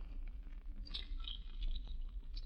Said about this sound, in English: Do you chew gum all the time? Yeah.